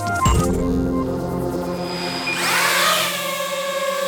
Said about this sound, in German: So können sie klingen. Oder so. Oder auch so. Drohnen. Immer öfter sieht und vor allem hört man sie auch in der Stadt fliegen, meist über Freiflächen, gesteuert von Privatleuten.